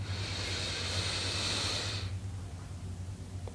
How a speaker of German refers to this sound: Wir nehmen den zweiten tiefen Atemzug und atmen ein.